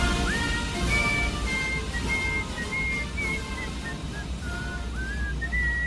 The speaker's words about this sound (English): Will you stop whistling, please? I'm trying to sleep over here. Sleeping too much is a sign of depression. Yeah, well, you keep whistling and I'll put a depression in your skull.